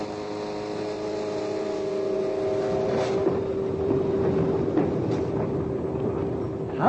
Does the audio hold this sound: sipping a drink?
no